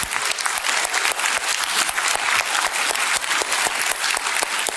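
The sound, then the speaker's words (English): A large church audience claps steadily and continuously as a cheer for the church's widows, a dense, even wash of applause, with faint cheering mixed in and no speech over it. “Can we just give a cheer for our widows real quick and just let them know how much we love them?”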